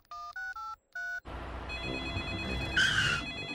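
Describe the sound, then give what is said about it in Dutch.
Four quick two-tone keypad beeps dial out to Grandpa Dog's tow truck service, then a steady ringing tone sounds over a dense, noisy background, with a brighter, louder burst near the end. No one speaks. “Ik bel even naar de volgende hulpdienst.”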